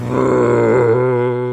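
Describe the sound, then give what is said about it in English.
A voice imitates a new drill with a loud, sustained droning groan, low and buzzing with dense harmonics, held steadily for over a second without pause. The drill is likened to the sound in Steven Spielberg's War of the Worlds. “And the new drill sounds like that sound in War of the Worlds, you know, the Steven Spielberg version where he goes...”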